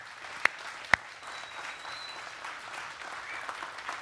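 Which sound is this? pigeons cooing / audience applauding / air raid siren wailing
audience applauding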